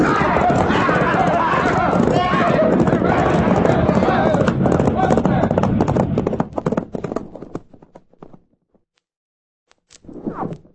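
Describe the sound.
Many ridden horses gallop hard in a loud, dense rush of pounding hooves that gradually fades, followed by a brief silence and a short burst of voice at the end.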